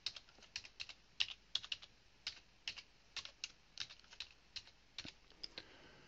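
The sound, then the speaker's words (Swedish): Irregular clicks of typing on a computer keyboard, crisp, a few dozen keystrokes in uneven bursts with short pauses, no voices present, as a birth year is typed into a population database search. “Och jag lägger till hans födelseår med en gång.”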